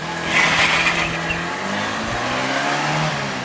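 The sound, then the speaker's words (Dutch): A car engine revs hard and roars off, its pitch climbing with each gear in a loud, sustained burst, with a brief high tire squeal near the start. “Luid tierend en scheldend scheurde het mannetje weg.”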